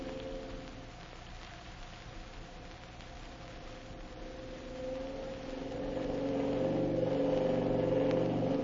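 A gas motorboat engine drones steadily at full throttle, wide open, over a hissing wash of spray and water, growing louder and fuller partway through, with no voices.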